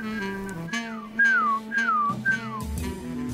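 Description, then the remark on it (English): During a community radio broadcast, a person whistles four quick, bird-like chirps, each a clear note sliding downward, repeated at an even pace over soft, steady background music. The voice imitates a small songbird. “Sounds like a birdie. Hello. Somebody's got a birdie in the room. I've been practicing whistling.”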